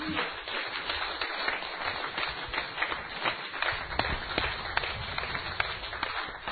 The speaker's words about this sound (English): Give her a cheer.